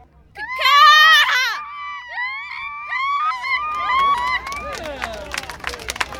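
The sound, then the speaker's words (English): At the annual Seagull Calling Festival on the waterfront beach of Port Orchard, Washington, on Puget Sound, grade-school contestants mimic seagull cries with a loud, wavering shriek, then several shorter sliding squawks, while crowd noise and scattered clatter build underneath toward the end. “Contestants, most of them in grade school, chirp, caw, and flap their way down the beach.”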